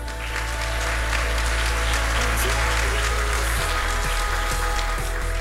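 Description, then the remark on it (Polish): Steady, dense applause from a large audience at the Imagine Cup 2016 national finals, greeting finalist team Smartbox in the Innovation category, continues at a loud, even level, with no voices breaking through. “Smartbox. Brawa.”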